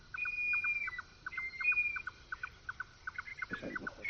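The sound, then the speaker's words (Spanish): A red-necked nightjar, a night bird, repeats a steady series of hollow, knocking double notes in the background, a traca-traca sound. Thin, sustained whistles from other night birds drift above it, and a brief rustle comes near the end. “Y al fondo uno que hace traca-traca, como tú dices, sí. Ese es otra ave nocturna que es el chotacabras pardo.”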